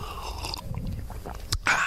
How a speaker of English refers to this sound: And excuse me, I'm working on this cold, so I have hot tea here, so I'm going to have to sip on occasion, or I'll sound like Joan Hackett, for people who remember Joan Hackett.